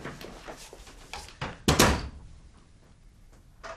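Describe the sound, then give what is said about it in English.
A door leading only to an inner room opens and shuts with a loud thud in the middle, preceded by a few faint handle clicks and shuffling, then quiet. “That door leads only to an inner room.”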